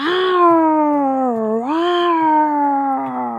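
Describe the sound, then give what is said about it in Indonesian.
A person imitates a wild cat yowling to frighten mice, in one long, loud, wavering cry that dips and rises in pitch, with no other sounds around it. “Kakek Serakah meniru kucing liar dan menakut-nakuti para tikus.”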